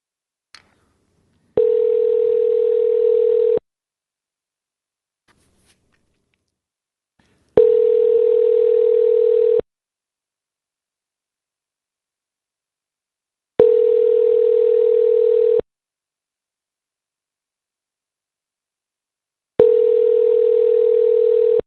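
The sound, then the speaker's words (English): A phone line rings while waiting for the front desk of the Quality Inn hotel in Idaho Falls to answer: four steady two-second ringback tones, evenly spaced by about four seconds of silence, clear and moderately loud with no voices. “Pick up.”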